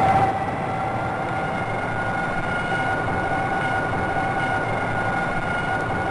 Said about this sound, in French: c'est un Zodiac tel qu'entendu par un beluga et tel qu'on peut l'entendre sur le site Internet du GREM, le groupe de recherche et d'éducation sur les mammifères marins de Tadoussac. Le son est vaguement différent, vous l'avez entendu,